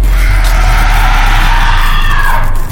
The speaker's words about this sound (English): A sort of white steam materializes and moves like a solid wall toward the opening. There's a strangled screech. The withered arms quickly pull back into the rift.